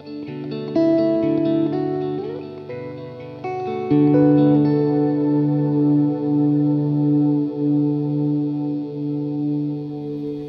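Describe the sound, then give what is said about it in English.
Sustained notes ring out through a long-tail reverb pedal with a sustain knob, with a new layer of held tones swelling in partway through and droning steadily, moderately loud, to the end with no talking. “And they both have this cool sustain knob so that you can like play a note.”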